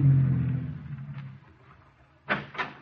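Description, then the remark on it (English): A car engine rumbles low and steady, then fades as the vehicle settles, followed by two sharp thuds close together, like car doors shutting, fairly loud; an official car drawing up to the door of the General Assembly hall. “And as the official cars drew up to the door, the reporters would identify them and ask Mr.”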